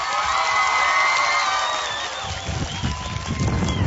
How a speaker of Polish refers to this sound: Brawa dla księdza biskupa.